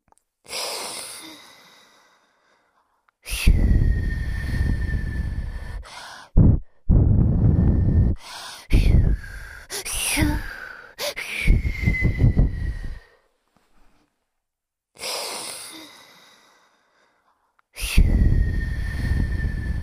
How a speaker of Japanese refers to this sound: 我が輩は炎の息も氷の息も自由自在なのだ。炎の息はまだ簡単に出せたが、氷の息を吐けるようになるまでは涙ぐましい修行をしたな。そんな氷の吐息で お前のことを冷やしてやろう。行くぞ。